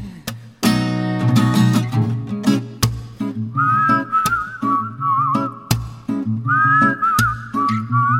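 A person whistles a wavering, bright melody in two phrases over steady instrumental music, entering a few seconds in after a busy musical opening; the whistling sits clearly above the accompaniment.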